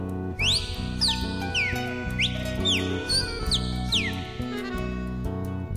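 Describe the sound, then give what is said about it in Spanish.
A cardinal sings a series of loud, clear whistled slurs, repeating about once a second over steady instrumental music that plays throughout. “Canta el cardenal.”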